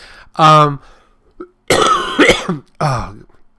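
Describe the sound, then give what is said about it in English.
A loud bout of coughing from someone with a cold: a rough throaty cough, then a cluster of harsh, rattling hacks, ending with one more strained, voiced cough. “Damn this cold cough thing.”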